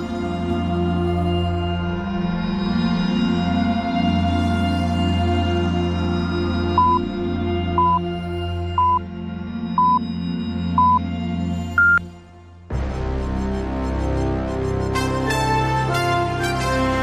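Radio Ognjišče hourly time signal marking 18:00: five short, evenly spaced mid-pitched beeps a second apart, then a higher, longer final pip, sounding over a steady music bed before a new musical passage begins.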